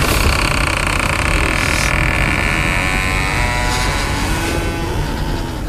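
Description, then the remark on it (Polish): A car engine runs steadily at idle, a low continuous rumble with a faint whine, fairly loud throughout, easing slightly toward the end as the car settles to a stop on rain-wet grass opposite the gate of a small cemetery. “Zatrzymuje samochód na mokrej od deszczu trawie naprzeciwko bramy malutkiego cmentarza.”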